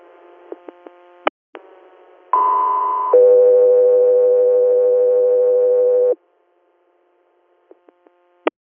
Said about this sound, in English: Guthrie Air, stand by for tones.